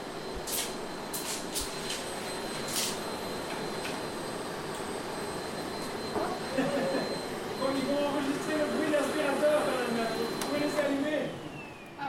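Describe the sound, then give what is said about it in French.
A cleaning lady's vacuum cleaner runs in a home during a door-to-door neighbourhood sound project, with a steady, loud whirring drone throughout, and voices start talking over the motor noise about halfway through. “la femme de ménage qui passe l'aspirateur”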